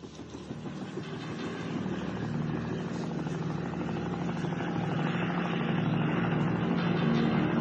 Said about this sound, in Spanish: ¿Qué hace aquí ese helicóptero militar?